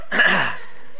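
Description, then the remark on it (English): A single sharp sneeze bursts out, loud and breathy, then quickly fades into quiet. “Bless you”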